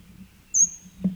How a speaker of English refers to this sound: 38, bird is overhead.